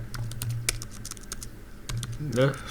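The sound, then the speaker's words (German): Rapid, irregular clicks of someone typing on a computer keyboard to enter flight details on the Lufthansa website, with a low hum underneath and a short voiced murmur near the end. “Ah ja, okay, muss ein bisschen tippen.”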